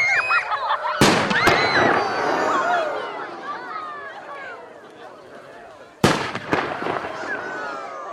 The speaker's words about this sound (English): lighting the fort's always a great time, you know. I get to shoot the fireworks, so that's always fun, you know. Not stumbling around in the snow, and the fireworks are loud, and the skies are clear, and the stars are out, so that's great.